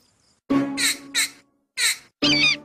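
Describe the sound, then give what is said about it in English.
Baby Bird, a character in the show Pocoyo, squawks loudly at a drawing: four harsh, raspy calls in quick uneven bursts with a short pause before the last two, and no talking. “Ah, baby bird obviously thinks your drawing is something special, Pocoyo.”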